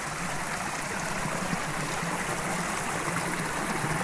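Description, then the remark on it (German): The Dosbach, a mountain brook on the Schwegalp fed by small streams, rushes steadily a few metres beside an alpine hut: a constant bright hiss of flowing water with faint gurgles, fairly loud and unbroken, with no voices. “Nur ein paar Meter neben der Alphütte fließt der Dosbach durch.”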